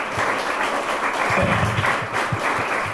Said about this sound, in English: Round of applause again for your county party.